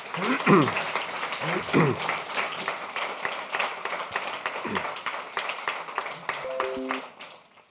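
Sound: applause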